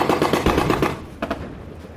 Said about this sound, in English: The invading troops are met by a hail of machine gun and cannon fire. Apache helicopter gunships hover overhead. A lot of noise, a lot of smoke, a lot of gunfire.